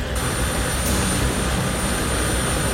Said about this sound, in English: The chopper lands in the field, and Brody's rushed towards it.